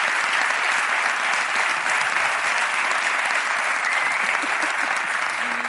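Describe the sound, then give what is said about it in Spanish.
Sustained audience applause for Ricardo and Grison on the programme, a dense steady wash of many hands clapping at constant loudness for about six seconds, with no talking over it. “Quien no provoca nunca y quien sostiene el programa en marcha, pide un aplauso para Ricardo y Grison un día más.”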